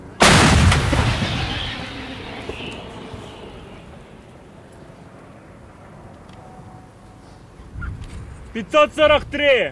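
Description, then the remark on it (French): One loud artillery shot, fired from a gun on the commander's order, booms out, its rumble rolling and fading over several seconds before voices begin talking near the end. “Et quand on lui donne le signal, il donne l'ordre de tirer.”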